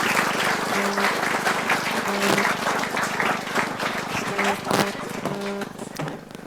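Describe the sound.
Steady, loud applause from an audience as certificates are handed out, a dense crackle of many hands clapping for several seconds, with brief tonal blips and cheering voices mixed in.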